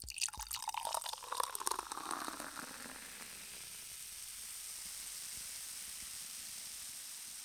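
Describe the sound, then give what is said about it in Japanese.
A can cracks open with a sharp snap as its lid is pulled, followed by liquid pouring for a couple of seconds, then a steady, soft fizzing hiss of carbonation. “缶の蓋を、よいしょっと。”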